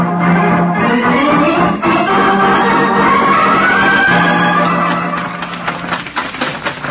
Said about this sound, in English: Oh, can't you get that horse to go any faster,